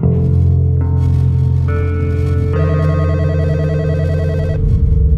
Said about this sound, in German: Bei Spitzers in den Niederlanden klingelt das Telefon. Die israelische Botschaft ist dran.